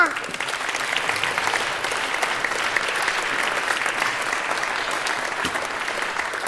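Steady audience applause, a dense wash of many hands clapping at an even level throughout, with no single beats standing out and no speech over it.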